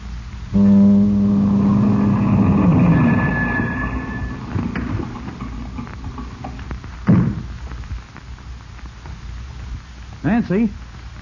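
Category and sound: vehicle, car approaching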